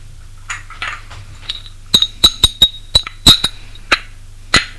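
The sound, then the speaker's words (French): A series of sharp glass clinks, around eight in quick irregular succession, some leaving a thin bright ring, as a maid serves drinks over a low steady hum, with no one speaking. “Une fois qu'elle les est servie, la bonne se retire.”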